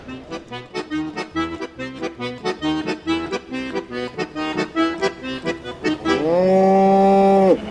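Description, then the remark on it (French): On a dairy farm, a cow lets out one long, loud moo near the end, after several seconds of steady rhythmic tonal pulses. No one speaks. “Parce que faut pas oublier que derrière nous on a une entreprise à faire fonctionner, on a encore des vaches à traire matin et soir.”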